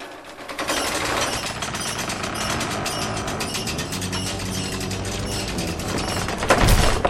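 A drawbridge sound effect, built from other effects for the radio play Grażyna after Mickiewicz: a steady, dense mechanical clatter of rattling chains and ratcheting gears runs for several seconds without pause as the bridge lowers and rises, ending in a louder heavy thud.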